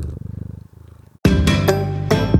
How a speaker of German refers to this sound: Er schnurrt und raschelt hier ein bisschen am Mikro rum.